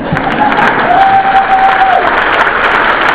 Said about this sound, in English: Well, I think we should try that applause one more time.